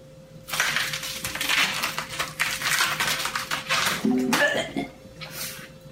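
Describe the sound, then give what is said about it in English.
A gory head-ripping sound effect made by tearing lettuce: several seconds of loud, wet crunching and crackling rips, ending in a brief squelchy burst before fading. “That was the sound effect for ripping somebody's head off.”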